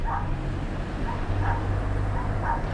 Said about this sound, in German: Doch schon seit Tagen hören die Nachbarn Hunde in einer kleinen Erdgeschosswohnung in dem weißen Apartmentblock bellen.